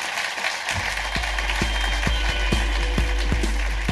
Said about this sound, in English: Well, I think that's a great place to leave it, ladies and gentlemen. Big round of applause, the amazing Alistair Green.